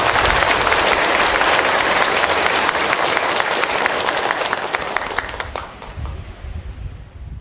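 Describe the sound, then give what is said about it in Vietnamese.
A large crowd at a Buddhist temple gathering gives a long round of applause in gratitude to the resident abbot and monks. The dense clapping is loud, then gradually thins and fades toward the end. “Xin toàn thể đạo tràng chúng ta tán thán và tri ân đại đức cùng chư đại đức tăng trụ trì trụ xứ một tràng pháo tay dài.”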